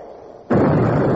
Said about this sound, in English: When the flag gets to the bottom of the pole, to fire the cannon, we'll be on our way.